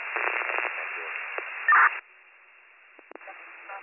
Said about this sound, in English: Last unit, you were all static. 5-7, did you copy them? Negative, all I hear is static.